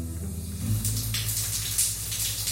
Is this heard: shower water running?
yes